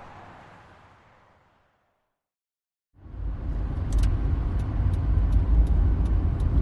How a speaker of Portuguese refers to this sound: Você dirige tranquilamente até o cemitério, várias coisas passando pela sua cabeça